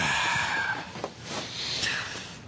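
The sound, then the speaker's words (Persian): A car pulls up with tires skidding and squealing as the father arrives home, a loud, continuous rush of noise with high screeching streaks and a few sharp knocks, with no voices. “ماشینم اومد. بابایی داره میاد خونه.”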